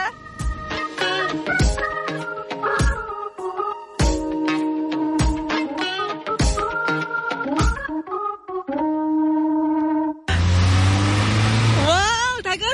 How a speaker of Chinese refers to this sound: 引擎声好兴奋，嗱呢一个真系意外地嘈嘅，点解？因为我哋开房啊嘛，哇好开心！